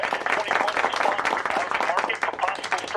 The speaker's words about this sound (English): The chief and others applaud.